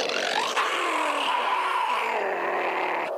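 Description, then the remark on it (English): A bear growls in one long, loud, rough rumble lasting about three seconds, its pitch sagging gradually downward, with no talking over it. “Watch out! That bear has noticed us!”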